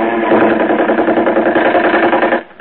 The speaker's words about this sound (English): Enemy plane, sir. I believe she sighted the float. We're in for it, I suppose. Keep down, everyone. If she passes over us, get under the water. Here she comes, sir.